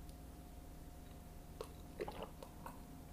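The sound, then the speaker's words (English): Early in the morning, someone quietly sips a little water, with a handful of soft, wet mouth clicks and gulps spaced irregularly over a low steady hum. No one speaks. “And I'm drinking a little water here because it's early in the morning, and I'm in a weird state of mind, so please bear with me.”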